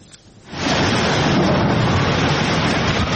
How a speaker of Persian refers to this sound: باران، هر قطره‌اش حیاتی است.